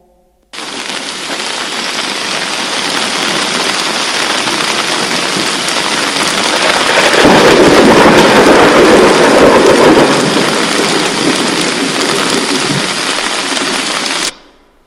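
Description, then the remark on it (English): A thunderstorm with heavy pouring rain, a steady, dense roar of rainfall that swells louder with rumbling thunder in the middle before holding steady and cutting off abruptly. No voices. “Soon, heavy rain began to pour. These were no ordinary droplets, boys and girls.”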